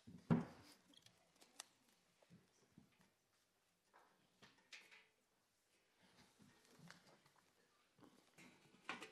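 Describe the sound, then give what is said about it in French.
Handling noises as someone sets up a microphone and a Bible on a stand: a sharp knock at the start, then irregular clicks, taps, rustles and soft shuffling, with no talking. “Je pense que vous avez bien formé vos jeûnes parce que ce que je viens de faire là, j'ai dû le faire tous les soirs pendant le camp de ski. Chaque fois, ma petite installation, mon micro, ma Bible.”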